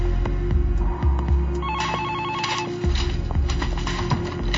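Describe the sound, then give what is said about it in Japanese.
A telephone rings for a long-distance call, with a short warbling trill midway through, set over a steady low throbbing drone that runs the whole time; no one speaks. “長距離電話。”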